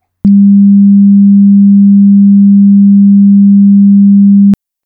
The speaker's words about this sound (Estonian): Kuulame nüüd heli sagedusega 200 hertsi.